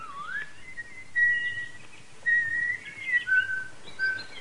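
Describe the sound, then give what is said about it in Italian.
A blackbird sings a series of clear, fluty whistled phrases with short warbles between them over a faint low background hum. “Uccelletto, è un merlo.”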